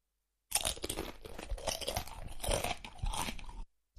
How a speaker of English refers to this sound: Sorry, I need to chew something.